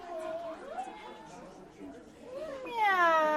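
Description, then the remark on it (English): A cat meows in a series of drawn-out, wavering cries that rise and fall in pitch, ending with a louder, brighter meow. “Meow. It's a cat.”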